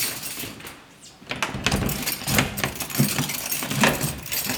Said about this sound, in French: On quitte l'alcôve de Madame du Barry et on arrive chez le roi. Voilà, je vais ouvrir la porte.